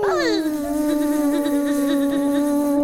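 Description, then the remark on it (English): A steady mosquito buzz drones on for about three seconds, starting with a brief downward swoop in pitch before settling into a continuous, slightly wavering whine. “What do you think Mosquito and her children do to this very day? Buzz! Buzz!”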